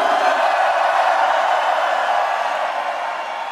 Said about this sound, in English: One, two, three, everybody scream.